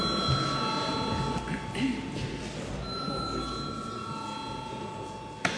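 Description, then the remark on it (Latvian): A parliament voting bell rings steadily for several seconds before deputies vote on a bill in its third and final reading, a sustained electric tone with bright overtones, while a low murmur of voices and shuffling continues underneath. “Paldies, lūdzu zvanu.”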